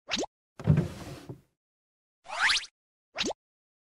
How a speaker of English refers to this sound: Can I open this drawer?